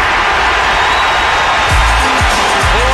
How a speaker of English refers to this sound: listen to that crowd, Judas. Yeah, it's 80,000 strong.